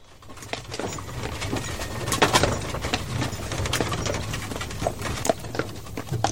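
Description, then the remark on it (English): A horse's hooves clip-clop at a steady walking pace, each hoofbeat a sharp knock over a low rumbling background, with no voices. “A simpler horse and low horsepower life, as it used to be on many farms in the 1940s and 50s.”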